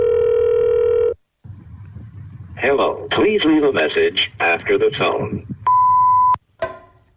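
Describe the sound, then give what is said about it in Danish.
A steady telephone dial tone hums for about a second while calling someone. After a brief gap, a voicemail greeting asks the caller to leave a message after the tone, over a low murmur. A sustained pure beep tone and a short click follow. “Vi kan lige prøve at ringe hende op og høre.”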